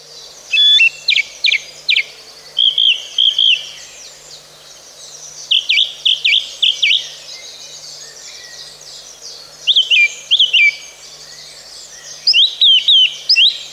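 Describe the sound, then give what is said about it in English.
A song thrush sings alone, clear, delivering short bright phrases of whistles and chirps, each repeated in quick bursts, separated by brief pauses over a faint background hush. “The song thrush is a small, familiar songbird commonly found in parks, gardens, woodland and scrub.”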